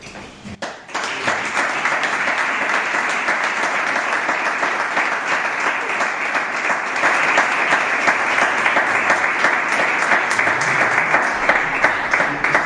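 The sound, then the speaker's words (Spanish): A large audience gives a loud, sustained ovation as Luis Manuel Pérez Caro (Luisma) receives a recognition award, dense clapping filling the whole stretch without a break, steady and slightly swelling toward the end. No one speaks over it. “Recibió una sonora ovación”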